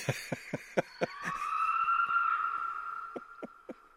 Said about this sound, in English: And the gray fox is very different than that. They have a song that my wife says is a scream.